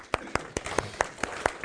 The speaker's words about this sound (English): I applaud you. Applaud yourself.